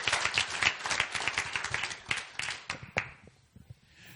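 Congregation applause: many hands clapping in a dense, steady patter for about three seconds, then thinning to a few scattered claps as it fades out.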